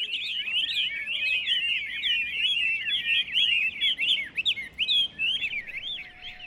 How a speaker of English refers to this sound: You could spend training one single songbird to do one particular sound.